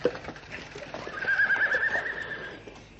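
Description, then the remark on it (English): A horse whinnies loudly and shrilly for about a second while hooves clip-clop steadily underneath amid a busy, noisy outdoor background. “Block the road, stop the horse.”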